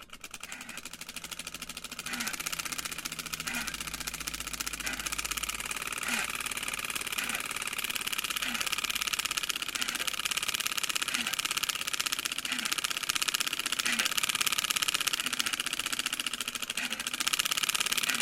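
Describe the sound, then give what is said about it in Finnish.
A steady, buzzing rattle of cardboard flappers, fastened with clothespegs, clattering against bicycle spokes, runs fairly loud for the whole stretch, with a faint rhythmic pulse repeating about once a second. “Pyörän pinnoihin näet kiinnitettiin pyykkipojilla pahvisia räpättimiä, jotka pitivät asiaan kuuluvaa kamalaa pärinää.”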